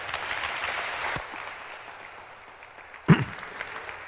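An audience applauds in a dense burst of clapping that fades after about a second into a softer rustling hum, with a single dull thump near the end.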